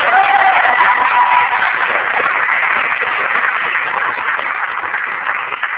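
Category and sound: crowd, applause and cheering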